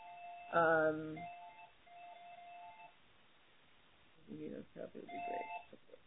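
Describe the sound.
A loud electronic phone notification tone rings out as the phone goes off repeatedly, followed by a few seconds of softer lingering beeps, then people begin talking quietly.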